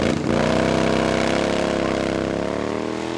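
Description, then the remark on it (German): A motorcycle ridden by a man in a trench coat, with a passenger on the back seat, roars to full throttle, its buzzing harmonic whine climbing in pitch and holding loud and steady as it speeds off, with no voices. “Sie sprang hinter dem Fahrer auf den Rücksitz und klopfte ihm energisch auf die Schulter. Der Mann im Trenchcoat gab Vollgas.”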